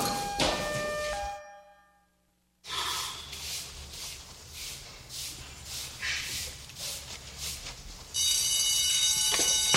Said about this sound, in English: The alarm.